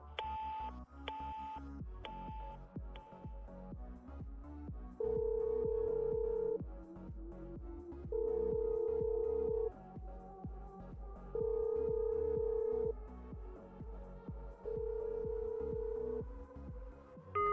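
A quick series of short keypad beeps as a phone number is dialed to call a close friend, followed by four long, evenly spaced ringback tones with pauses between them, loud, with no voices.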